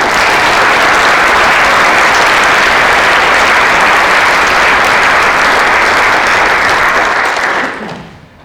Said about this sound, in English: So, I know you guys have already clapped in once, but can we have another round of applause for me?